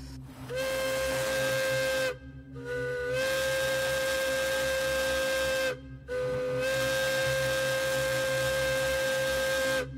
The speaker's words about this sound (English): And finally, this is the Hancock air whistle, in use from the 1930s all the way up into the 90s.